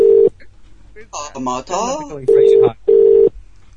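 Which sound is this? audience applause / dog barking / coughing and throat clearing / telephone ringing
telephone ringing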